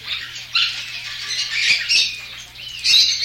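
Lovebirds squawk and chirp in a loud, almost continuous chatter, with shrill bursts swelling every second or so and no voices.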